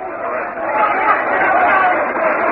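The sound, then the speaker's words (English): A large stadium crowd at a baseball game roars steadily for a couple of seconds as Rusty Staub bats on a 2-1 count, a dense, loud wash of cheering and voices that swells slightly midway, with a thin, band-limited broadcast quality. “You'll hear a roar from the crowd.”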